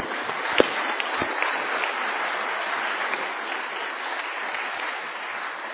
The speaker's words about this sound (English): And we're very proud of them and pleased with them at how they've done today. So join with me in again showing our appreciation with a big round of applause. Well done, young people.